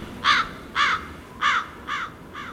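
Crows caw five times in a steady, evenly spaced series, each harsh call loud and close at first, the last two a little softer, with no talking.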